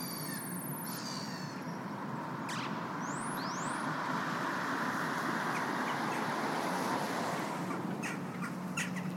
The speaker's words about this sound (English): I stop there to listen to ducks and birds fighting and singing.